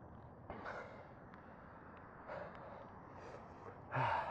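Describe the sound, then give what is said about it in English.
Heavy breaths rush into a microphone in slow, irregular bursts, the last one loudest, with no talking in between. “You can hear me breathing very clearly.”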